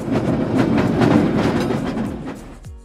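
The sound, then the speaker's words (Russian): A tram rolls along its rails with a steady low rumble and a regular clacking rhythm from the wheels, loud, fading slightly toward the end. “Трамвайные вагончики курсировали с интервалом в 14 минут.”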